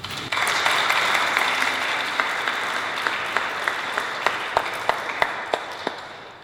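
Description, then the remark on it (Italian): An audience applauds for artist Patrizia Bigarella and her work 'La magia delle immagini', dense, steady clapping that slowly thins out, leaving a few sharp, separate claps standing out near the end. “Anche in questo caso facciamo un applauso a Patrizia Bigarella, che non è con noi.”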